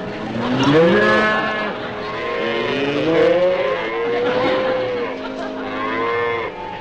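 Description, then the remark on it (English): Several cows, the ones from Mr. Morton, moo loudly, their long, drawn-out lowing calls overlapping continuously for several seconds, with no speech over them. “Including the cows.”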